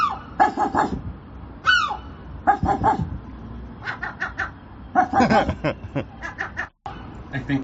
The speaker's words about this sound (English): Can you guys get your seagulls to bark like dogs? I think my seagull barks. Watch this.